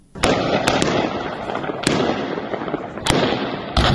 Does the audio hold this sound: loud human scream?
no